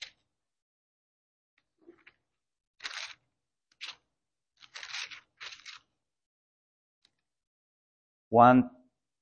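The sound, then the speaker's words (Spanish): Several short, dry rustles of Bible pages being turned to John 13:15, coming in irregular bursts over a few seconds, then a brief voice sounds at the very end. “Juan 13, 15, dice, entonces, él, escucho hojas todavía”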